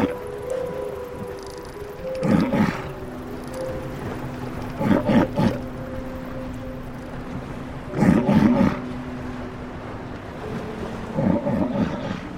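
A walrus gives four loud, low, bellowing roars at irregular intervals, each a rough burst of grunting pulses, over a steady rumble of water and waves.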